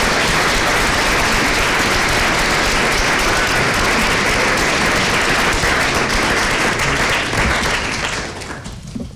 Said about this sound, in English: So I think we all deserve to give him a big round of applause because he was a great senator.